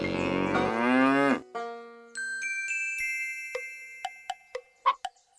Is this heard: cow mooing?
yes